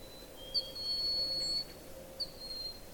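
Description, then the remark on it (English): Broad-winged hawk giving two high, thin whistled calls, each opening with a sharp accent and drawing out into a long, steady, piercing note over a soft background hiss. A second broad-winged hawk has joined; the calling one is a little further away. “Oh, he is being joined by a second broad-winged hawk.”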